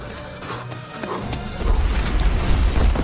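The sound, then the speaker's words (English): A large explosion tears through a building, starting as crackling, crashing debris and swelling into a loud, deep, sustained rumble that roars heavy through the second half. “A large explosion takes out the building and throws the threesome to the ground.”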